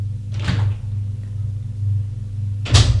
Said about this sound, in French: On a frappé à la porte. Entrez.